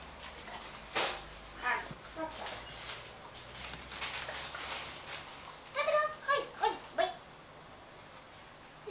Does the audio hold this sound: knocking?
no